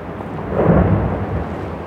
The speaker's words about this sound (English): Great chunks of ice fell into the water, then raised up again like a broaching submarine to float as small icebergs. With each boom and crack, a bit more of Greenland's ice falls into the sea.